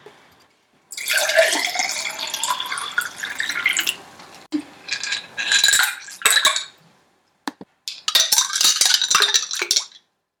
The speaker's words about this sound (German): Wenn der Tee ausgekühlt ist, füllst du ihn in die Gläser und tust die Eiswürfel rein.